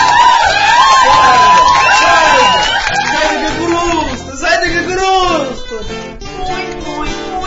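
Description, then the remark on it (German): A loud crowd cheers and shouts in welcome, a dense wash of many voices with high whoops rising over it, sustained throughout and swelling in bursts. “Die Begrüßung war überwältigend.”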